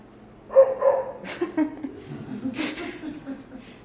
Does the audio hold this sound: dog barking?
yes